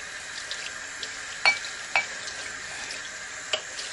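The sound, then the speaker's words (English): A steady hiss of running tap water fills a sink while a large pile of dishes is washed, with a few sharp clinks and knocks of crockery scattered through, moderately loud. “Tons of dishes here to get done, huh?”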